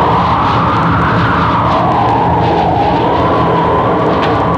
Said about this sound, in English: Not in this storm. Listen to that wind. What's that? Mother Nature's gargling.